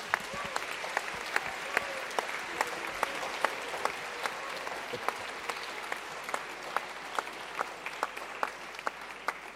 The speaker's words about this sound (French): Vous pouvez les applaudir, c'est eux qui font les Utopiales.